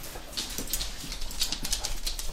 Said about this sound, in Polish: To jest pogodny hałas, to jest tupot malutkich łapek. Dużo łapek, bardzo dużo łapek.